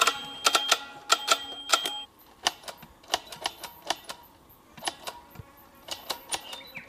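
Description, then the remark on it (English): A manual tally counter clicks rapidly and repeatedly as someone counts moving sperm cells in a few tiny samples under a microscope, sharp mechanical snaps coming in quick uneven bursts with brief pauses, clear, with no voices. “he's actually counting how many sperm are doing what in a few tiny samples.”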